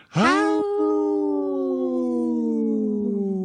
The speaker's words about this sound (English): Howl! Wow. That cat was, my cat over here was howling.